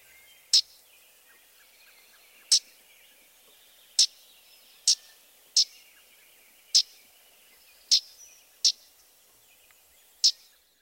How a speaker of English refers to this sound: The yellowthroat also has a loud, raspy call note.